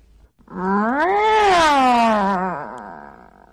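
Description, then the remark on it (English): A person imitates a dissatisfied cat meow: a single drawn-out, wavering vocal tone that rises in pitch, holds with a whiny quality for about two seconds, then sinks and fades. “Okay, then we have the dissatisfied meow.”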